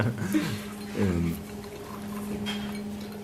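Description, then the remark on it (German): A drink is poured into a glass with a gurgling, rising tone, followed by brief sipping sounds during a drinking break. A faint steady hum and some low voice sounds run underneath. “Entschuldige bitte, aber wir müssten regelmäßige Trinkpausen haben.”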